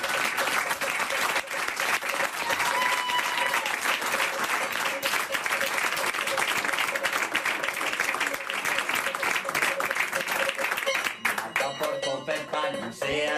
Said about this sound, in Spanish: Un aplauso para Berto y todo su equipo por organizar esto.